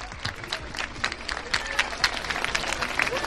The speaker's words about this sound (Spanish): Son los aplausos de los alumnos del Instituto Alfonso II en pleno centro de la ciudad, al lado del Campo San Francisco, y han dibujado al recreo un gran lazo dorado con cartulinas para visibilizar la lucha contra ese cáncer infantil.